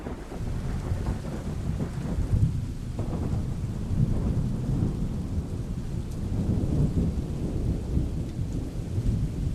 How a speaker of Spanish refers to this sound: La tormenta está muy cerca. Sí, cuantos menos segundos contemos entre relámpago y trueno, más cerca estará.